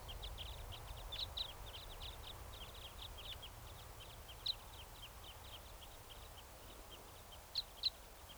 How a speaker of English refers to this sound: Stop. That was a bird. Just flew over.